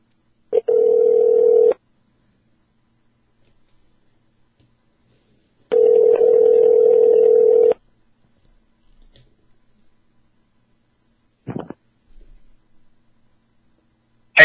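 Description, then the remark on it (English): Phone ringback tones of a call made cell phone style: two steady, buzzy tones a few seconds apart, separated by silence, then a couple of short clicks near the end as if the line picks up. “I was calling, but you weren't picking up, and then you called me on my cell, and...”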